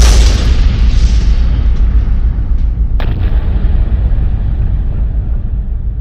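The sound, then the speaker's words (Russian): A massive explosion of a large copper vat holding thousands of gallons of freshly made, whiskey-like liquor, engulfed in flame, roars with a deep, sustained rumble, its hissing top end fading away, and a sharp crack bursts out halfway through as the blast keeps thundering. “Пламя охватило чан. К счастью, шансы, что в таком взрыве кто-нибудь уцелеет, равнялись точнёхонько единице на миллион.”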